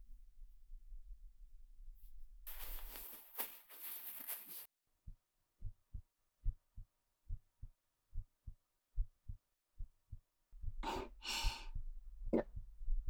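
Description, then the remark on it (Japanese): A close, muffled human heartbeat thumps steadily, about a dozen low beats in a regular rhythm, framed by soft rustling and breathy noise before and after. “早くなってるとか、そういうこと言わないで、恥ずかしいから。そりゃドキドキするでしょ。”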